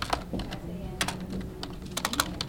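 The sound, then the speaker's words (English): Quick, irregular clicks of a soon-to-be-released prison inmate typing on a computer keyboard at a prison job center, searching for job openings, in short bursts over a low hum, with a faint voice murmuring in the background. “soon-to-be-released inmate Kaylee Selig types on a keyboard, searching for openings”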